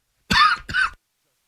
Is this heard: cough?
yes